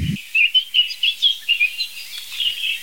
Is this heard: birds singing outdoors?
yes